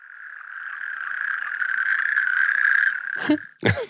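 A natterjack toad calls with a loud, sustained rattling trill, steady and mid-pitched for about three seconds, ending in a couple of sharp, brief noises.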